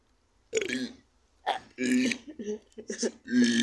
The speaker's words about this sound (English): Don't have one in me. Do you not force a burp?